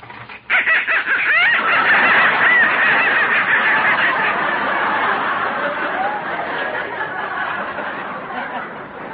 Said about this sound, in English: What was that? They're not quite done yet. Now, look, that noise came from some live ducks I got in the basement.